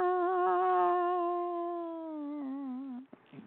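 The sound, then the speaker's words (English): A violin, played by someone being taught to play, is bowed in one long, sustained first chord that wavers a little and sags downward in pitch before cutting off with a brief scratchy noise. Moderately loud, with no talking. “Now, strike the first chord.”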